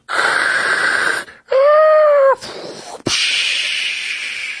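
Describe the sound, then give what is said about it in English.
A human voice imitates a tsunami with the mouth as an oral sound effect: a loud rushing hiss, a brief rising-and-falling wail in the middle, a sharp click, then another long, gradually fading whoosh of breathy noise. “Oh my God. Tsunami.”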